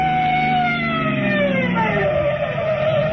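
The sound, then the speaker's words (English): A loud police car siren wails continuously with slowly sliding pitch during a car chase through traffic, mixed with the rumble of a moving vehicle engine, with no speech present. “It's cops, all right.”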